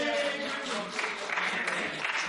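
An audience claps steadily for a couple of seconds, a dense, bright patter of many hands at an even, moderate loudness with no voices standing out.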